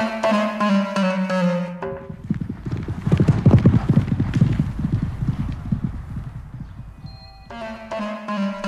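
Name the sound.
horse hooves clip-clopping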